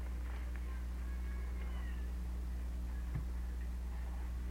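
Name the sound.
stray cat meowing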